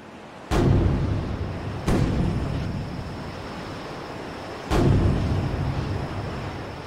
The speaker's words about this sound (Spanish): ¡Son 3 cañonazos! ¡Han capturado el barco!